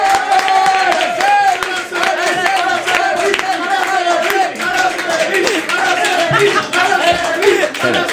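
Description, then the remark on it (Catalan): A crowd breaks into loud, sustained applause welcoming mountaineer Araceli Segarra, dense steady clapping mixed with cheers and whoops that carries on at full strength for several seconds. “Llavors, va, rebem amb un fort aplaudiment a l'Araceli Segarra.”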